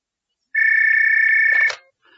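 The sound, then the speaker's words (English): A single electronic telephone ring, a steady warbling tone lasting about a second, cut off by a click as the receiver is picked up for a call from Accounts about an expenses claim, followed by faint quiet. “I'm just ringing about your expenses claim.”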